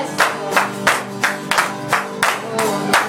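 A church audience gives a clap offering, clapping in steady unison, about ten sharp, even beats at a brisk pace, with sustained musical tones humming underneath.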